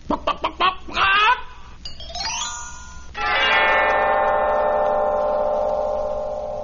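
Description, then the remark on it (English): The golden hen that laid the golden egg in the Jack and the Beanstalk story clucks in a quick run of short bursts and a squawk, followed by rising tones and then a long, sustained ringing chime that fades slowly. No one speaks. “So you really did have the hen that laid the golden egg after all.”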